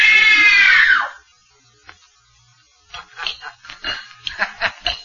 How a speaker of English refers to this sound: Good. Now scream. Scream! Scream for your life!